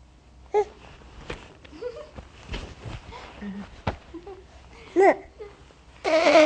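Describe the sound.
Soft babbling vocal sounds while looking at a picture book, then a loud, strained, brassy burst at the end as a person imitates an elephant's trumpeting call.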